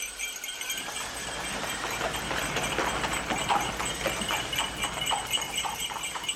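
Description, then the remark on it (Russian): Horses drawing a sleigh along a road at a fast gallop as the coachman takes the reins, hooves pounding in a quick, steady rhythm with a bright jingling hiss over the top; no voices. “Взял вожжи, и лошади полетели.”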